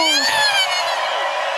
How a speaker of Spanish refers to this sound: Y que se mantenga ese aplauso para mi amigo Claudio Chao.